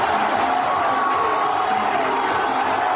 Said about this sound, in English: Listen to the reaction after Juan Soto hits a home run. The middle of short. And the 0-1 is drilled to right. Back on it, Perez. Looking up, and it's out of here. The visual helps, too, as you're watching the crowd go crazy.